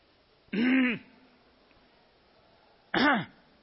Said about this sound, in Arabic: هذه نحنحة فيها حروف، هي ليست كلاما عند الناس لكنها تشبه الكلام لخروج حرفين فأكثر.